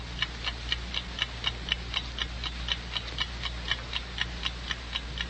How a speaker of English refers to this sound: Have you noticed how loudly clocks seem to tick when there's someone dead in the house?